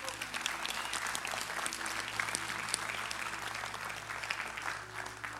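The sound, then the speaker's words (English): An audience at Wellspring church claps together as the weekly offering is taken, in steady, dense applause that holds at an even level for about five seconds, many hands blending into a continuous patter with a low hum underneath. “See, guests, we clap at this moment because one of our core values is we believe that we get to give.”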